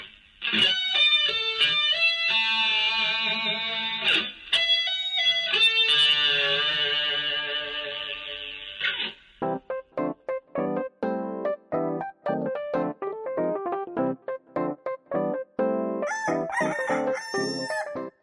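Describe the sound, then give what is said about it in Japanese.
A short produced jingle built around a loud, processed rooster crow that rings out with rich harmonics, followed by a bouncy run of quick, punchy staccato musical hits and a bright flourish at the end. “ジングルいきます。”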